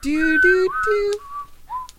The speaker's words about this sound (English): I can't whistle. I'm a girl. Come on. Girls have a hard time.